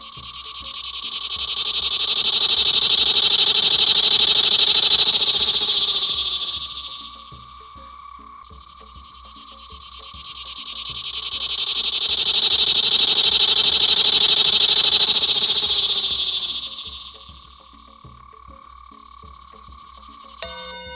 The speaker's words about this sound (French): La bonne réponse est cigale.